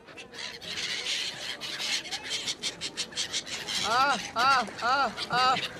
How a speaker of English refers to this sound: The Sangam is also one of three places in India where the soul can get to heaven very quickly, and where gulls get fed by the pilgrims.